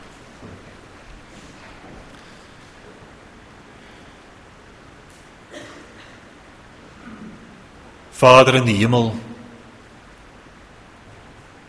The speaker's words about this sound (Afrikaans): terwyl die reën so neersak waarvoor ons u baie dankbaar is